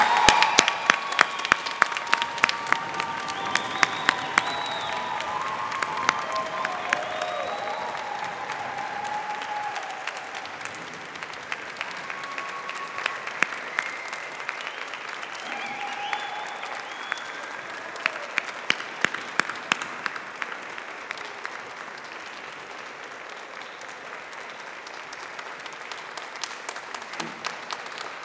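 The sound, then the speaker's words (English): Family and friends at a Cornell Law School graduation ceremony applaud the Class of 2020 and December 2021 steadily for about half a minute, dense overlapping clapping with a few scattered cheers and whoops rising above it, fairly loud and with no one speaking. “Family and friends, please join me in congratulating the Cornell Law School Class of 2020 and December 2021.”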